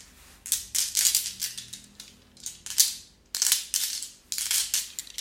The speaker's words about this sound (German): Steine fallen aufeinander.